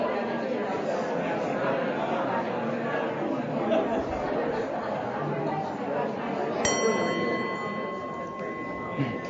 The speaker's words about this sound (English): I'll let you know when we're about midway by hitting the bell. So you'll have about 2 minutes per person.